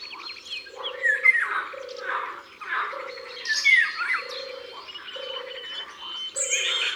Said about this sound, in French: Ça, c'est un de ses cris. Le loriot vit souvent près de l'eau, parce qu'il aime boire et se baigner.